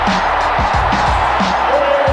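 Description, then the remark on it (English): A dense, loud arena crowd in Charlotte roars and cheers continuously after the Hornets win an NBA game at the buzzer, a wall of overlapping voices with scattered low thuds and a brief whistle-like tone rising out of the din. “The Hornets win the game at the buzzer. Listen to this crowd.”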